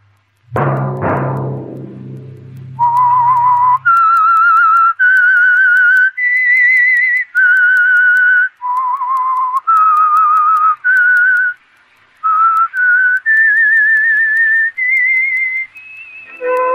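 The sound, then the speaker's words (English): A lone, clear whistled theme melody of a radio program, a dozen or so sustained, wavering notes rising and falling, preceded by a brief low musical hit at the start, with no talking. “Whistle be your signal for the Signal Oil program, The Whistler, each Monday at 9”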